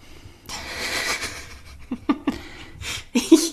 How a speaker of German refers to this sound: Ich höre schweres Atmen.